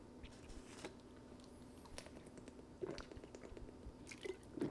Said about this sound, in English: We take a sip of water.